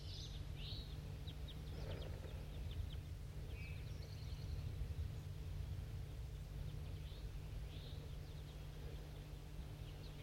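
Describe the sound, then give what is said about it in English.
A flock of crossbills flying past, recorded on the way down a hill, gives short, high chirping calls in scattered bursts over a steady low hum of background noise, the calls fairly faint and irregular throughout. “Start recording a flock of crossbills was flying somewhere on my way down the hill.”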